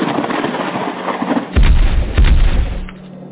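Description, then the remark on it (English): A sharp, heavy crack of thunder from a lightning strike bursts out of a steady hiss, followed by a second deep boom and a low rolling rumble that fades away. “The sky cracked fierce with the lightning strike.”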